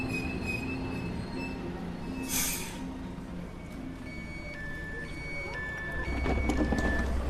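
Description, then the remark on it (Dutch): A passenger train rolls along the tracks from the station in Assen toward Bijlen with a steady low rumble, faint high squeals and tonal whines from the wheels, and the rumble grows louder near the end. No one speaks. “Goed, tijd dat we zelf de trein instappen op het station in Assen.”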